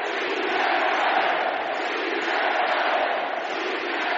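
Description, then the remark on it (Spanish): A large crowd at the party assembly of Pablo Iglesias's political formation at the Palacio de Vistalegre chants its battle cry, many voices merging into a loud, sustained roar that holds steady for the whole few seconds with no pauses. “Empezaron con su particular grito de guerra.”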